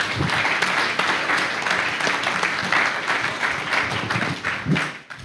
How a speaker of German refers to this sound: Der darf jetzt auf die Bühne kommen. Herzlichen Applaus